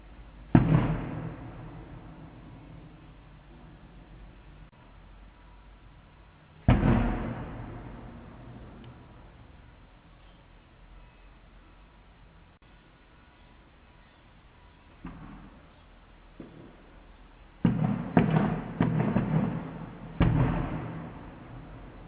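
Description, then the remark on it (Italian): A Diana pirotecnica firecracker salvo set off to honour a patron saint: loud, booming blasts spaced irregularly, each rolling off in a long echoing tail, with a tighter cluster of bangs near the end and no voices. “Quella che stiamo sentendo è la cosiddetta Diana pirotecnica, sinistri rumori di guerra col pretesto di onorare un santo.”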